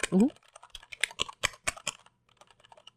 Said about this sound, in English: me typing softly. Right? Just nice and soft. I like that it's very smooth and it sounds kind of refined. I don't know how to call it. It sounds like I'm typing something important and smart.